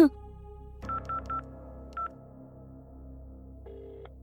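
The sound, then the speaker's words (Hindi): Telephone keypad tones as a number is dialed from a hospital to call home: four quick beeps in a row, a pause, one more beep, then a longer steady tone, all over a low background hum. “घर में बाबूजी को खबर करनी होगी, घर में फोन लगाओ, मुझे बात करनी है।”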